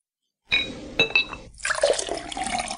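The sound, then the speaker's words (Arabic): A couple of bright glass clinks ring out, then tea streams steadily into a glass with a rushing, splashing pour that continues to the end. No voices. “اشرب التاي يا وليدي طير عنك قداش.”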